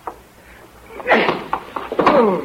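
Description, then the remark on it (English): A quick series of heavy thumps like punches landing on a man's body, coming in an irregular flurry with scuffling movement and faint grunts between the blows. “I've never seen a guy that liked being hit so much, or that I liked hitting so much.”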